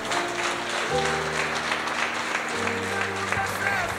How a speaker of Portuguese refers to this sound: Aplauda o Senhor, meu irmão.